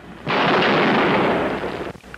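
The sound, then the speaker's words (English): A loud gunshot, from a 1966 recording in Austin, Texas, fired by Charles Whitman from the clock tower balcony on the University of Texas campus, bursts in and rolls on as a broad, roaring echo for well over a second before cutting off, followed by quiet with a few faint clicks. No one speaks. “It was recorded in Austin, Texas in 1966 after a lone shooter named Charles Whitman stormed the balcony of the clock tower in the middle of the University of Texas campus and started firing at random.”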